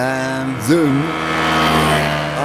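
A motorcycle engine drones steadily, with one quick rev that rises and falls in pitch early on before it settles back to an even, humming idle.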